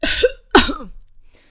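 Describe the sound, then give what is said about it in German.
Two harsh coughs in quick succession, fairly loud, the second one stronger, followed by a faint breathy trailing sound and quiet. “Das Husten ließ nicht lange auf sich warten.”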